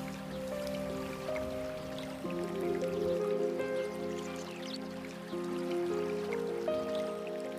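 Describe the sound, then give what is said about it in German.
Steady flowing water of a small brook, with scattered trickles and drips, as a person lies in the brook bed and lets the warm water flow over them, heard continuously beneath soft, sustained ambient music tones at a moderate, even level. “Du legst dich in das Flussbett und lässt das wohltuende Wasser über dich fließen.”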